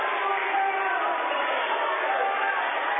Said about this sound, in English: What? I must have missed something here. What is the what's the crowd upset about? Did you see it? I think just taking freshman Taylor out. Oh, they wanted him to keep shooting, I guess. That's what they were about.